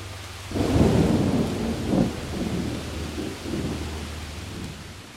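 Steady rain hisses throughout while deep thunder rolls in around the first second, rumbling loudly and then grumbling on in waves. No voices.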